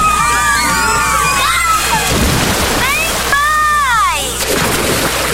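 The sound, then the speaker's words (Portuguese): A lively crowd of people playing and splashing at the Áureas Parque water park, with children's excited shouts and squeals rising over constant sloshing, busy throughout. “Vem aí um mega parque aquático com piscina de ondas, praia artificial, toboáguas e muito mais.”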